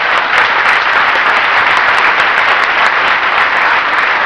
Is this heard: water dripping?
no